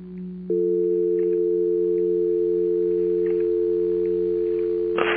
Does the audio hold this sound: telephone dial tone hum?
yes